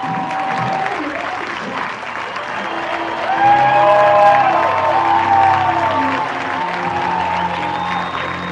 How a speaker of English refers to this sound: gets a standing ovation, I'll turn it over to the crowd as she sits around the bases.